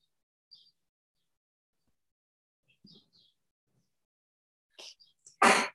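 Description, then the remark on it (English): A single sharp, loud sneeze bursts out near the end after a short intake, following a few faint, scattered chirps amid otherwise quiet. “And any answers that come, including a sneeze, are all valid.”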